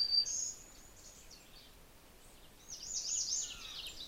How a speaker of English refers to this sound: Ah, that was a redstart. Wee, wee, wee, wee, wee, kind of a loud sound.